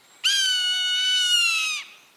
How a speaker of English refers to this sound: A soaring Swainson's hawk.